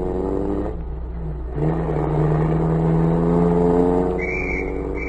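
car pulling away

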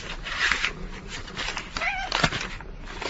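cat purring

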